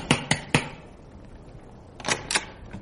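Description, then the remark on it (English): Knocking on a house's front door: three sharp raps in quick succession, a pause of over a second, then two more firm knocks. The blows are crisp and moderately loud, with no voices. “Keep an eye out for Wordsworth over the edge of your pram while I knock at the door.”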